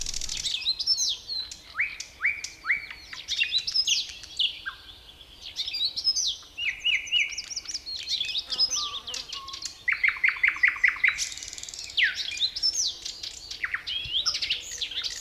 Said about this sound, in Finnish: Ja niiden hienous oli siinä, että kaikki yöt sain kuunnella tätä täydellisintä linnunlaulua, Suomen kauneinta linnunlaulua.